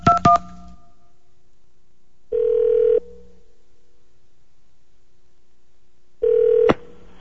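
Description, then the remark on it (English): Two quick telephone keypad beeps sound right at the start, followed by two long, steady ringing tones spaced several seconds apart on the line. No one speaks. “Hang up and try another one.”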